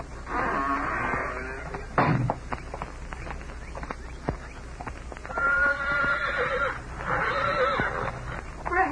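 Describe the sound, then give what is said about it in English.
A horse whinnies loudly outside a prison's main gate, where it waits for a released prisoner, then a second long, wavering neigh follows a few seconds later, with faint hoof clops and shuffling in between. “There's someone waiting over there with a horse for you.”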